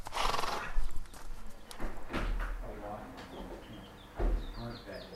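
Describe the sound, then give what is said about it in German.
Horses on a small horse farm: uneven hoof clops and scuffs, a snorting whinny early on, and thin, high bird chirps toward the end, with faint voices murmuring in the background. “Heute haben sie einen kleinen Pferdehof und eine gemeinsame Vision.”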